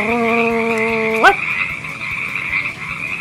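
Frogs croaking: a sustained, buzzy low tone holds for about a second, then slides upward and cuts off, while a steady high chirring chorus with faint rhythmic pulses continues throughout.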